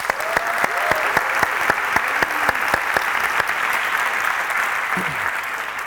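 An audience at the Full Frontal conference bursts into sustained applause for the organisers, a dense steady wash of clapping that fills the whole clip at an even, moderately loud level, with a few sharper claps standing out early on.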